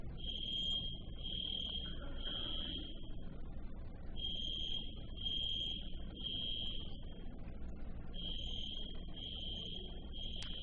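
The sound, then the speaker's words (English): A building fire alarm system goes off, apparently with no fire, sounding in groups of three shrill, steady beeps, each burst repeating with short pauses, loud and piercing over a constant low rumble of background noise. “We don't think there's a fire. Our alarm system does that once in a while.”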